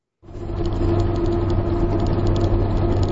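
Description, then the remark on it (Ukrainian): A minibus taxi (marshrutka) engine in Minsk, Belarus idles and runs steadily, a loud drone with a low rumbling hum and faint rattles, starting abruptly and continuing without speech. “Я сядаю ў маршрутку.”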